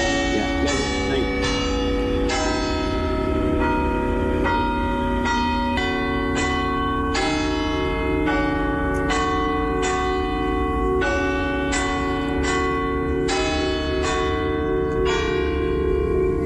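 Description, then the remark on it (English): Church bells ring out in a steady peal, strike after strike with rich overlapping tones that hang and blend, loud and continuous with no talking. “But if I just play you a little bit of the audio, right, which I believed for years are Shandon, but somebody else told me are St. Coleman's, maybe you could say yay or nay.”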